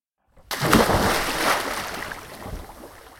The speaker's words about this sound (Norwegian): Det mange mennesker I svømmehallen på Kongsvinger, og mange lyder. Folk roper til hverandre, barn ler, og vannet skvulper og plasker.